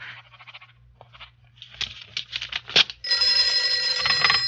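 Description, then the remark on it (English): After a few seconds of light clattering and shuffling, a telephone bell bursts into a loud, continuous metallic ring, a call from a Chicago associate, that carries on steadily to the end, with no one talking. “My Chicago associate is on the phone.”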